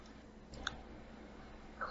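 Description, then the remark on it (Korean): Two soft computer mouse clicks, right-clicking the D3 menu at the top of a Disguise software project to open a menu window, one near the start and another near the end, separated by a pause over a quiet, low background hum with no talking. “상단의 D3 메뉴를 마우스 오른쪽으로 클릭하게 되면 메뉴창을 열수 있습니다.”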